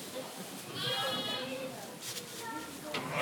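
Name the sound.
lamb bleating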